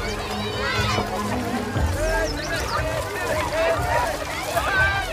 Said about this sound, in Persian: دو خواجه خودشون رو توی آب میندازن و همه ندیمه ها و خواجه ها همراه بچه ها به سمت اونها میرن. بچه ها مشغول آب بازی میشن.